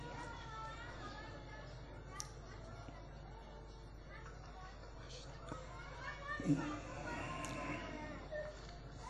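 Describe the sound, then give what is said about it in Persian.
Children's voices chatter and play throughout a meeting in a steady, moderately quiet babble, with occasional brief high-pitched squeals and bumps rising above the background murmur. “اون بچه ها رو از جلسه بیرون کنن عزیزان که مزاحم کسی نشن، بچه ها رو دور کنن.”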